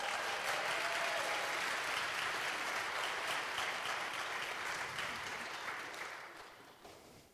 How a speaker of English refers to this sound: They never clap that way for me. They might not afterwards either.